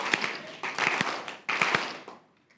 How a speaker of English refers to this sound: And then they have a moment of silence. And then they break into great laughter and applause. Jesus is risen again. Let's try that again. Three claps.